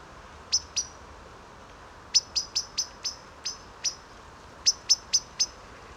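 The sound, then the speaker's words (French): A Eurasian blackbird waking at dawn calls with sharp, high, clipped notes in irregular bursts of two to four, clear over a soft, steady background hiss, with no voices. “Un merle qui s'éveille.”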